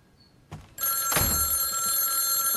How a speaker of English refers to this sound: He comes back in and rushes to answer the phone.